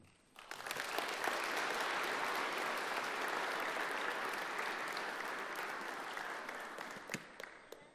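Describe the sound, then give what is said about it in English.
An audience claps steadily for the children of the children's choir, Sunday school classes and play, a dense wash of many hands that rises quickly, holds strong for several seconds, then thins out toward the end. No one speaks. “So I think maybe it would be good to give the children one final round of applause and thank them.”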